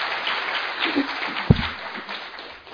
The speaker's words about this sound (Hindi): तो पहले हम दिल से स्वागत करते हैं, जोरदार तालियों से स्वागत।